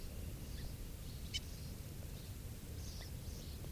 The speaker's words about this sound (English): There's a hawk here, and this is bird 395 giving alarm calls.